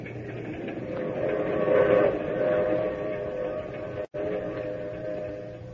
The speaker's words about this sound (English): Not till I'd gotten on the train with her and we were riding along to tell me why.